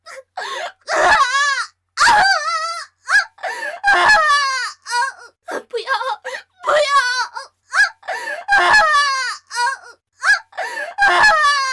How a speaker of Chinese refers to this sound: 露儿话音未落，几个打手抡起身边的狼牙棒朝妖姬身上抡去。妖姬的女子嫩肤哪里经受得住狼牙棒上的钢钉，妖姬忍不住嘶吼惨叫起来。